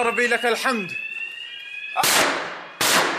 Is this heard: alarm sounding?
yes